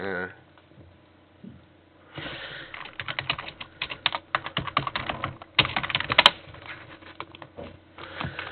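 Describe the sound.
Rapid clicking of computer keys, fairly loud, in uneven bursts with short pauses between runs of typing as someone types to get help; a brief soft voice is heard near the start.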